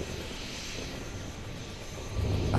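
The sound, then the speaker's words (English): Distant thunder from a storm moving this way, with lightning above the clouds, rolls as a continuous low, broad rumble, holding steady and then swelling louder and deeper toward the end. No one speaks. “There, you hear that? Distant thunder, sir?”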